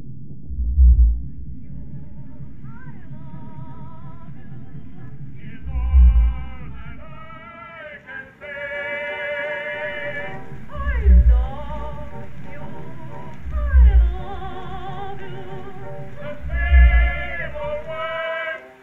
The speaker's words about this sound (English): We sped up that recording of a fin whale singing so you could hear him.